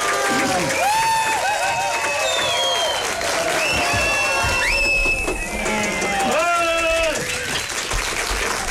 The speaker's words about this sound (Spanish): Como se merece, con un fuerte aplauso de todo el respetable auditorio que nos acompaña aquí y a través de las ondas hercianas. ¡Fuerte los aplausos!